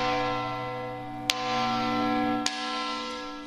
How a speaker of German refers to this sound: Das ist ja noch eine Glocke, die schon existiert, die im Eigentum der Kulturstiftung steht